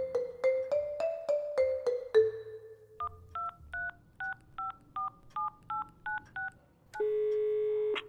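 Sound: telephone number being dialed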